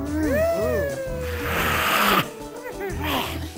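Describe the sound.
A person imitates a cougar, with a wavering, yowling vocal sound that breaks into a loud, breathy hiss lasting under a second, then a shorter second hiss.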